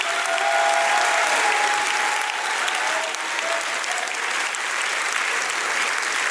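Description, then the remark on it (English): An audience claps hands to the Lord in dense, steady applause that stays loud for several seconds, with a few raised voices shouting to him through the clapping. “Clap your hands to the Lord right now and shout to him.”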